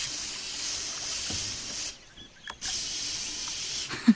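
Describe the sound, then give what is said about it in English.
Two long bursts of aerosol mosquito repellent spray, a steady bright hiss lasting almost two seconds, a brief pause, then another hiss of similar length, ending with a small thump. “Do you have the mosquito repellent?”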